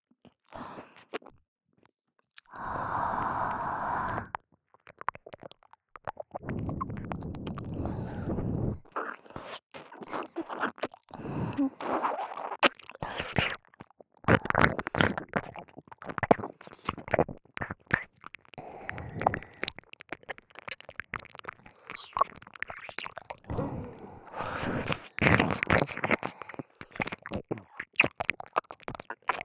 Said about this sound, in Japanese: お耳に熱い吐息を吐くと、お耳がゾクゾクしますよね。